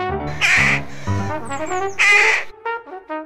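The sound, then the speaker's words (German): A rook colony in Laubheim caws loudly, several harsh overlapping calls in quick succession with short gaps, fading into shorter scattered caws at the end. “Doch seit die Saatkrähen da sind, ist Schluss damit,”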